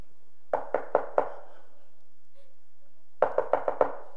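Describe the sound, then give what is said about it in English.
Someone raps on the door of a house four times, pauses for a couple of seconds, then knocks again with five quicker, firm knocks. The sound is distinct, with no voices. “He didn't even answer the door.”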